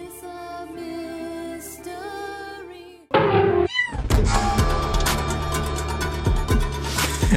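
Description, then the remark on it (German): An end-credits song plays: a soft, sustained instrumental opening gives way after about three seconds to a louder, full-band section with a steady driving rhythm, continuing without any talking. “Ich feiere diesen Abspannsong immer so hart irgendwie.”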